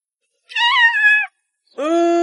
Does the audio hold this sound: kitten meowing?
yes